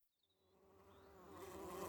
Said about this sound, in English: Listen! I can hear bees. Where are they? They're on the flowers.